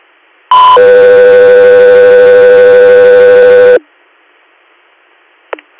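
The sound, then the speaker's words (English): Radio dispatch alert tones for Alaska 3: a brief higher beep jumps straight into a long, loud, steady lower tone with a buzzy edge, held about three seconds, then silence and a short squelch chirp. “Alaska 3, stand by for tones.”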